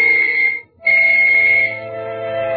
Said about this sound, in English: I waited for the whistles to signal all clear.